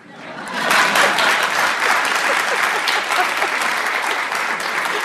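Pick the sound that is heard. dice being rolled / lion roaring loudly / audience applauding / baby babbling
audience applauding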